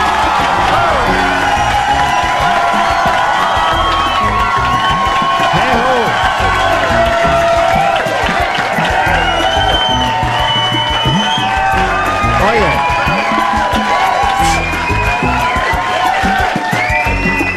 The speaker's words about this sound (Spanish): ese amigo pelirrojo de Jejo, él grita igual cada vez